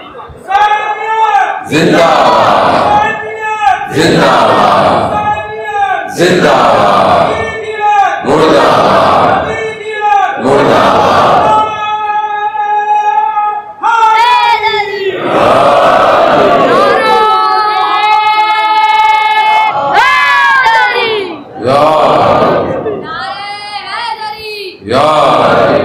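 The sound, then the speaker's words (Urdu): A large crowd chants religious slogans in loud, rhythmic unison bursts, repeating the call again and again with brief pauses between shouts, the voices forceful throughout. “ہماری مجلس میں نعرے نہیں لگتے کم از کم.”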